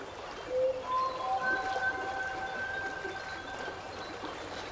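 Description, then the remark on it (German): Steady, soft flowing water of a fountain with a gentle bubbling texture runs throughout, overlaid by a few long, thin tonal whistles that slowly glide and overlap. Calm, continuous and fairly quiet, with no speech. “Das Fliessen und Sprudeln vom Wasser reinigt und klärt dich und bringt dir tiefe Entspannung.”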